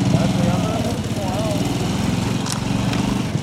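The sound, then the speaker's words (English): A motorcycle engine runs steadily, its low, buzzing rumble holding even throughout, with faint indistinct voices mixed underneath, as the motorcycle is ridden along the coast at night. “That night, I take a ride along the coast on a motorcycle, and the destruction is apocalyptic.”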